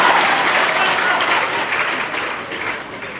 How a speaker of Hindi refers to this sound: इसने बजाओ ताली बजाओ, आपकी बारी है।